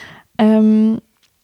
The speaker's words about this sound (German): Hier klingelt im Hintergrund das Telefon. Ich weiß nicht, ob man das jetzt hört.